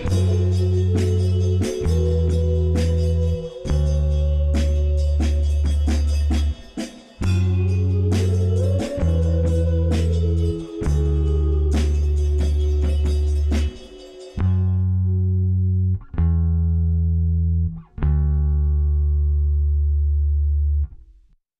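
An indie rock song plays, with steady pulsing bass notes, percussive hits and a wavering melodic line on top, thinning out toward the end into sparse, punchy bass stabs.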